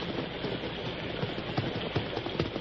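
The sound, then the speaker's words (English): A rainstorm pours down in a steady, dense hiss, with occasional louder patters and soft thuds rising out of the wash of noise. No one speaks. “Horse is plenty tired from fight against storms.”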